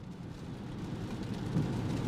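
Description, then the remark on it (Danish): An electric car with 168 horsepower and 290 Nm is started with its start button and pulls away with a low, steady rumble and hum that slowly builds in loudness, with no engine revving and no voices. “Nu skal vi høre, hvordan det lyder, når jeg trykker på startknappen, og vi kører derudad.”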